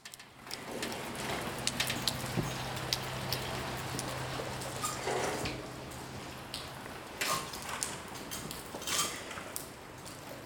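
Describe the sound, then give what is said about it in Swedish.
Steady outdoor rain on a stormy autumn day in Lund, Sweden, patters on hard surfaces outside a shop, a dense crackle of drops with a few louder, gusty surges in the wind toward the end as awnings flap. No one speaks. “Det är ett riktigt ruskväder ute. Det regnar och markiserna de fladdrar i vinden.”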